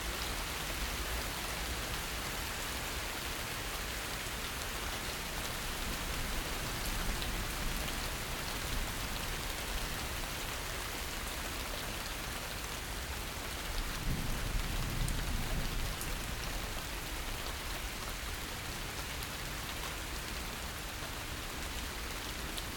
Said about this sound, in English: But let's listen to the rain for a while.